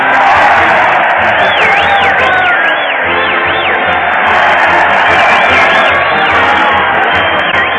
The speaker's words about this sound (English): The crowd is cheering Fred Allen as he leads his weekly parade to the old Town Hall. Fred's keeping the band in time with a gold baton, and the Mighty Allen Art Players are following out of step with the world.